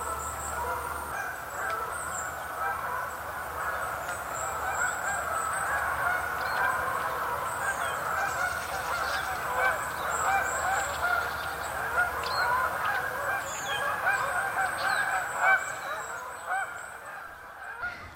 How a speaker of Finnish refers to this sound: Näin Kanadan hanhea esitteli